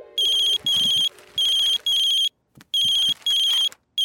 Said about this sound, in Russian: Папа забыл свой телефон, а ему дедушка звонит.